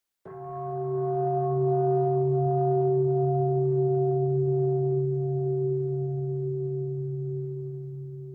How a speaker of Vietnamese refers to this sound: Hoặc nếu ta đang ngồi trong một tư thế không đẹp thì ta cũng chỉnh đốn lại tư thế ngồi để bày tỏ sự cung kính. Bởi vì tiếng gọi của tiếng chuông là tiếng gọi của Bụt.